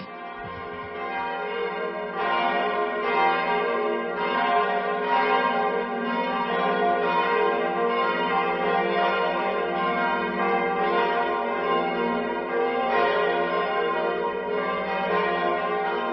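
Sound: church bells ringing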